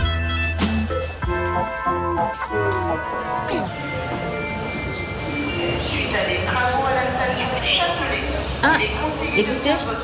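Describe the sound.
Busy underground metro station ambience: a train rumbles and screeches along the platform, with metallic clanks and a steady murmur of voices around it, fairly loud and close.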